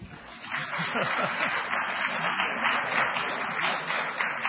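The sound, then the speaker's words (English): An audience claps steadily for several seconds for young people under 35 standing up, a dense wash of many hands, with faint murmuring voices beneath the applause. “Give them a hand. Come on, you can clap.”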